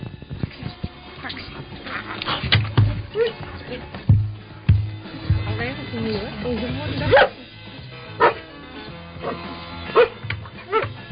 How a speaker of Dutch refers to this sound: Misschien het laatste woord aan de honden.